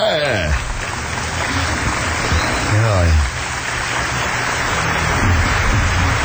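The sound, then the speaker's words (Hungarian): An audience applauds on the master of ceremonies' cue, clapping steadily in a dense, continuous wash lasting the whole clip, with a couple of loud shouted cheers rising above it near the start and midway. “Mondja a hopmester, és erre tapsjon.”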